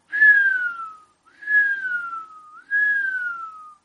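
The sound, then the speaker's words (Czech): A whistle in a small chamber, blown by a breeze, sounds three times in a row, each note a clear, fairly loud tone that starts high and slides downward, with short gaps between them and no talking. “Píšťalka píská čím dál tím víc.”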